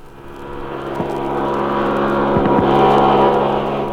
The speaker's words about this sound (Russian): Следующий эксперимент – центрифуга. Признаться, я очень боялась тогда этого опыта. Проходил он вот так.